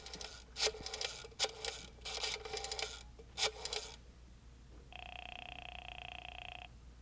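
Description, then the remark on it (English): A telephone being dialed by FBI Special Agent Jim Taylor at field headquarters in the Metropolitan Center: several short bursts of rapid clicking and whirring, one after another, followed by a steady, buzzing ring tone that holds for nearly two seconds. No one speaks. “Special Agent Jim Taylor is making a phone call.”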